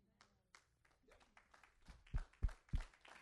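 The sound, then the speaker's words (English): Three loud, evenly spaced seal-style claps land in quick succession near the end, each a heavy, thumping smack, following a stretch of muffled talking and faint background chatter. “Thank you for the seal clap.”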